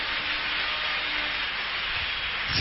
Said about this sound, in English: Church, clap your hands now. It's a victory. It's a victory.